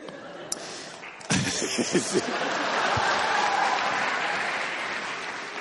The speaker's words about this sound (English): Oh, you people will clap for anything.